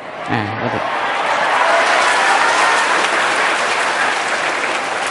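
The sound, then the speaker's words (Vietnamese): Sustained audience applause, a dense, steady wash of many hands clapping for about five seconds, with a brief voice audible at the very start. “Cho nên vỗ tay cũng què.”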